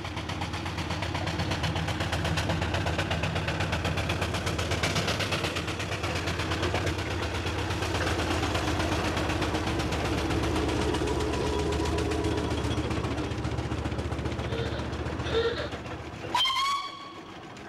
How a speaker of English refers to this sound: the sound of a Black Five pulling 40 wagons of coal